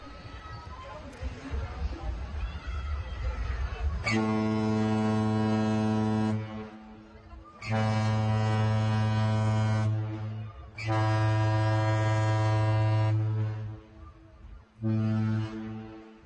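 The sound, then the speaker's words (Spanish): The deep horn of a ship entering a port sounds four long blasts separated by short pauses, loud and droning, preceded by a few seconds of indistinct background noise. “¿Por qué estamos escuchando de repente la bocina de un barco entrando en un puerto?”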